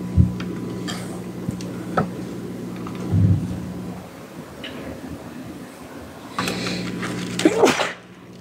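A single sharp, loud sneeze bursts out near the end, following several seconds of low, steady hum and faint background rumble with no one talking.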